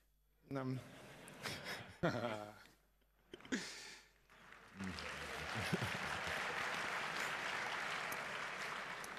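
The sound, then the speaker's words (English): A voice speaks in short bursts, then steady audience applause swells and continues loudly for several seconds, a dense even patter of many hands clapping, at the start of a talk with slides. “Well, if you keep clapping the whole time, I won't get forward with 72 slides.”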